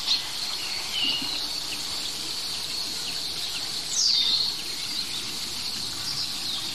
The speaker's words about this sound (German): Und da oben dieses Kiek noch sehr langsam, ein bisschen eingefroren. Das ist wiederum ein anderer Specht. Ein ganz kleiner Specht.